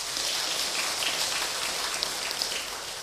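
loud applause

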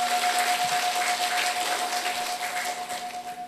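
round of applause

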